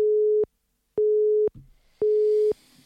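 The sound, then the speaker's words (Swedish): A telephone busy signal heard while calling someone who is busy: three steady mid-pitched beeps, each about half a second long, separated by equal silences, clear, with faint background hiss near the end. “Han är upptagen. Man hör det på ljudet.”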